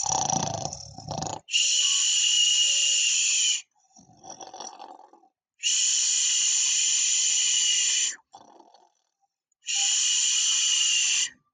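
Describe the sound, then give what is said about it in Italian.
A voice imitates the loud snoring of a wolf asleep in bed with a full belly: three long, harsh, hissing snores of about two seconds each, separated by quieter breathy inhales, loud with no talking. “Iniziò a russare così forte che un cacciatore da lontano pensò che la nonna si sentì male e allora disse: "È strano che la nonna russa in questo modo.”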